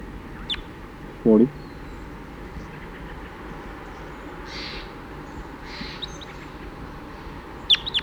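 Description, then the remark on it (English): Crossbills calling as they fly over, over a steady background hiss: one loud, low, harmonic call early on, with a few faint, high chirps near the start and again at the end; the recorder is pointed at the Wildbird area. “Now 40 calling. Pointed at the Wildbird area.”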